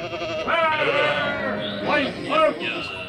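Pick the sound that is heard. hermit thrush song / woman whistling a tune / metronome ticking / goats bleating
goats bleating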